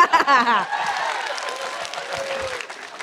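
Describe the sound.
An audience claps in a steady, dense wash of applause for about three seconds, with a loud voice calling out over the clapping at the start before fading into the applause.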